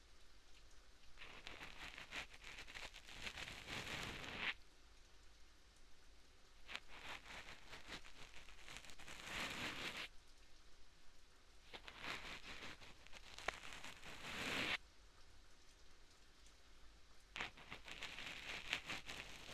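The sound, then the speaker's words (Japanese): Steady rain falls continuously, a dense hiss of drops with a few brief shifts in intensity, fairly soft, with no voices. “それにしても、やみませんね、雨。”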